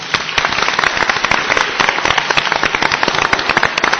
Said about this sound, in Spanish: Se merece un aplauso, ¿eh? Yo creo que sí.